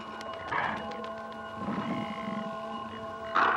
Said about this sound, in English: Arctic wolves.